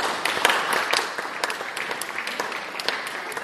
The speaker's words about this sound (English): A big round of applause for all of these guys.